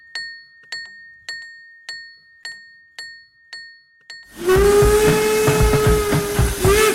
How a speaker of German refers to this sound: Das schlägt und macht Lärm. Der Klang von Hilbersdorf. Er warnt die Arbeiter, dass sie jetzt besonders aufpassen müssen, weil der Seilwagen ja nicht plötzlich anhalten kann. Deshalb das Warnsignal, Tag und Nacht, jahrzehntelang.